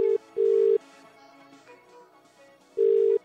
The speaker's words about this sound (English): You want to make a phone call? Let's do it.